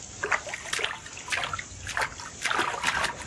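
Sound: water splashing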